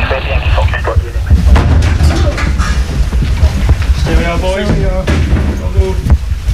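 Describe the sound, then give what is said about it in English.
Police officers force open an office door marked 'design and print', which turns out to be a studio, with heavy, booming thuds amid loud, rumbling commotion, and a man's voice calls out over the noise. “So the door's just been broken in.”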